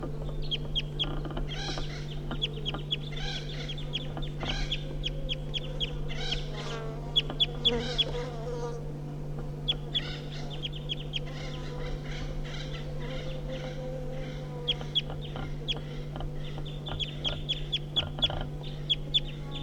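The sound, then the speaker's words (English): Wild birds give flight calls at 9 o'clock: short, sharp chirps and clucks, repeated irregularly throughout, some in quick bursts, over a steady low mechanical hum. “So recording the wild birds giving flight calls now.”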